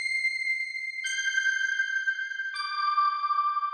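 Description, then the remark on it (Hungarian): A small bell, shaken by hand as the candles on a Christmas tree are lit, rings out in three clear, sustained tones, each stepping lower in pitch, with bright overtones ringing steadily and no voices present. “Aztán felgyújtak a fények, a faágán gyertyák lobogtak, a csillagszórók aranyat szórtak az égre, a díszek büszkén forogtak, egy angyalszárny kisuhant az ablakon, és Terike megrázta a csengőt.”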